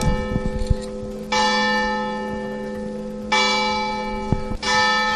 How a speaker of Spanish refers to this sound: Es el minuto de silencio, son las campanas este mediodía en la plaza del Ayuntamiento, minuto de silencio al que ha asistido toda la corporación municipal y también varias decenas de personas,